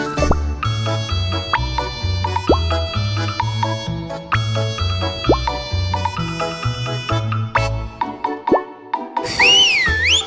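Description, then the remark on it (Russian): Bright, trilling warble of a water-filled clay whistle, a small pot-shaped toy with a hole in its handle, filled with water and blown, from Kaluga, Russia, bursts in near the end, wavering up and down like a nightingale for about a second, after a stretch of bouncy instrumental music. “Свистулька, а внутри свистулька. Как соловей свистит.”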